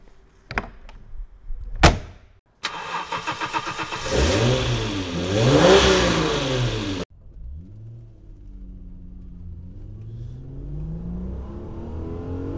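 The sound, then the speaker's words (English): A couple of sharp clicks, then a powerful normally aspirated supercar engine fires up with a loud blare and revs up and down before settling into a lower rumble that slowly climbs in pitch. “It's a lovely sounding engine, all normally aspirated.”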